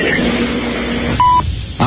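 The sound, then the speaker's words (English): A single steady electronic beep, like an answering machine tone, sounds clearly for about a quarter second after a stretch of muffled background noise, then the line goes quiet. “Enough with the phone number. Where's the beep?”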